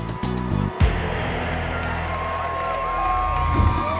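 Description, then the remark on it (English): A large jubilant crowd of some 30,000 packed into Edinburgh's Lawn Market, Scotland, on 28 January 1829 for the hanging of William Burke, roars and cheers in a dense, sustained wash of voices, with scattered whoops rising above the steady din outdoors, loud and continuous throughout. “The mood was jubilant as teeming crowds packed in Edinburgh's Lawn Market.”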